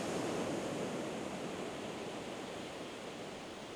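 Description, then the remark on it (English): A steady, hissing wash of ocean surf rolls onto sand without pause, soft and even, easing slightly quieter toward the end. No voices, just the continuous rush of water. “Now that all of the symbols are on the sand, and you notice that the waves are washing them away, they are never going to come back.”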